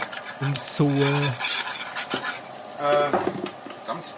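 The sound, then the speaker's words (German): Sauce is stirred with water in a pot with scraping, swishing strokes and light metallic clinks of a utensil, while a voice speaks briefly in between and a faint sizzle runs underneath. “dann kann man das mit dem Wasser ein bisschen verrühren.”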